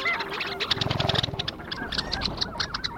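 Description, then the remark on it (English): A lively chorus of long-tailed duck calls, nasal yodeling notes and rapid clucking bursts repeating over about three seconds, moderately loud, outdoors in the wetlands around Tshekpuk Lake in the Arctic. “their vocalizations reflect the urgency of the season. And it's not just the long-tailed ducks.”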